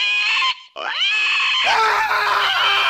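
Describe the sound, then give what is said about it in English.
A bearded pig squeals loudly, shrill rising shrieks broken by a brief pause, then a harsher, noisier squealing that carries on to the end. “Also popular is the bearded pig.”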